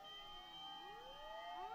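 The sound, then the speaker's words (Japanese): A faint fire engine siren wails, its layered tones sliding up and down in overlapping sweeps, heard alone with no one speaking. “ああ、いえ、消防車ですね。”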